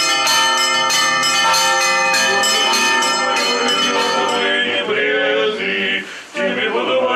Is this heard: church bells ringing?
yes